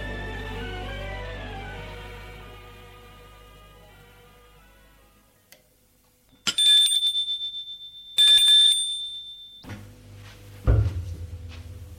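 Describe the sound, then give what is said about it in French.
A bright doorbell at the door of a Louis XV town house on Boulevard Saint-Germain rings twice in quick metallic bursts after a fading low tone, then a servant opens the door with a rattle and a solid thud. No one speaks. “Paul va sonner à la porte de l'hôtel.”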